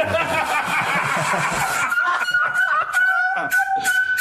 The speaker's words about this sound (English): What a sad air horn. Is it just because it sat idle for so long? Oh, sad.